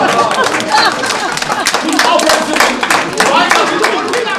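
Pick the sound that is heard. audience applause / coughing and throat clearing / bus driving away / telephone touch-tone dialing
audience applause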